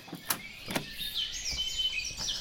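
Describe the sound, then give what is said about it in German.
Birds singing in a forest, heard from the small balcony of a treehouse with trees starting a metre from the railing: high, bright chirps and warbling trills drift over a steady airy background, with a couple of short clicks or knocks near the start. No one speaks. “Die Vögel singen.”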